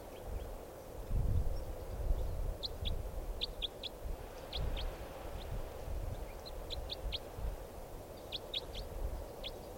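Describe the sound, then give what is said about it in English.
A type 4 bird at the decoys calls at 4:21 p.m. with short, high, sharp chirps in irregular clusters, repeated throughout, over a steady low rumbling background noise. No one speaks. “Bird.”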